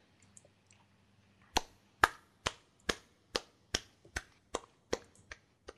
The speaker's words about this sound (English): All right. So that's we finally the most awkward applause I've ever heard in my entire life. Well, it's only one person doing it, so I can't do much better than that, and I don't have a soundboard for an applause.